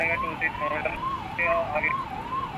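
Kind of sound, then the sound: vehicle, police car siren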